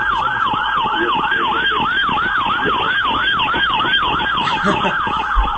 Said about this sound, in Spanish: Acaba de pasar ahí una ambulancia.